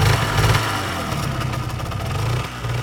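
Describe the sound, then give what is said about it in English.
A motorcycle engine idles with a steady low throbbing rumble and slight fluctuations in pitch, running continuously for a few seconds with no voices. “It's called Equip Liberia, and its field office is Transportation Central, with 15 motorcycles and a four-wheel drive truck.”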